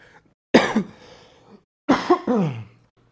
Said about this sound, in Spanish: Perdón, si este clip lo iba a sacar alguno del equipo para promocionar el podcast en redes sociales, ya la acabo de cagar con mi tos de perro.